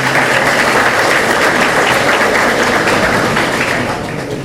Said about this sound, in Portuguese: Uma salva de palmas a ambos, por gentileza.